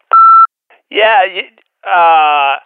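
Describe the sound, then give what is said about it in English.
A single short, steady electronic answering machine beep sounds clearly, then a voice begins speaking in two brief bursts right after it. “I'm not available right now, so leave a message after the beep.”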